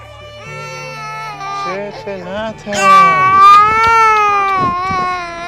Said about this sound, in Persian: خدا حفظش کنم. گریه نکن. میترسه. بچه هست از زلزله ترسیده. میگه سر صدا میشه میترسن دوباره اتفاق بیفته.